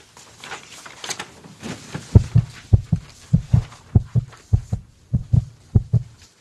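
A heartbeat thumps in a quick, steady rhythm, each beat a deep, muffled double pulse, emerging after a brief hiss of soft noise and continuing at a rapid pace.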